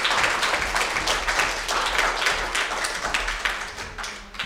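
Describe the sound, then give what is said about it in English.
A church audience claps steadily and fairly loudly after a performance, a dense patter of many hands that runs throughout without pause, with no one speaking over it. “Now you can clap for him.”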